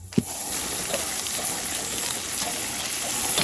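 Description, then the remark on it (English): Bacon sizzles steadily in a pan, a dense, crackling hiss that stays loud and even throughout, with a brief sharp pop near the start and no voices. “For that one, I feel hungry because I'm listening to bacon.”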